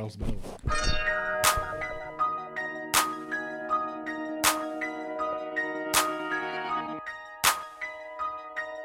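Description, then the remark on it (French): Church bells ring out within a music track, sustained ringing tones layered under sharp, regular strikes that land about every second and a half, fairly loud throughout. “Et on va se quitter là-dessus. Avec les cloches d'église.”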